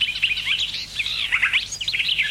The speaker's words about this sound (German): Gartengrasmücke.